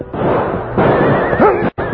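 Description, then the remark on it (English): A horse gives a short, high whinny partway through, rising and falling, as riders guide their horses along a deeply shadowed canyon at Cub Pass on the way to the Ajax Mine, set against a dense, loud wash of noise and commotion from a sudden burst of gunfire that cuts off abruptly near the end. “As they guided their horses along the deeply shadowed canyon, they were wholly unprepared for the sudden burst of gunfire that greeted them at the turn in the trail.”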